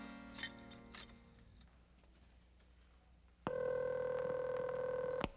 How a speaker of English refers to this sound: Charlie stops at a phone booth and calls in to report his seeming success